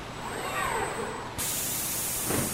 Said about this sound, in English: So this is the, we call it the ITC, Integrated Test Center. They have all sorts of robots of different sizes, including a fleet of adorable little race cars that zoom around big cages.